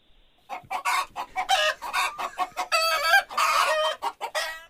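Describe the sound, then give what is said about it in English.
A chicken clucks repeatedly in quick, uneven bursts, loud, with a few longer, drawn-out squawks mixed in and no other sounds around it. “A chicken? You said chicken.”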